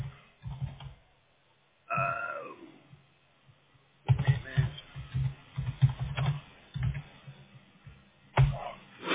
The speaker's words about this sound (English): I'm just typing it in on Google real quick.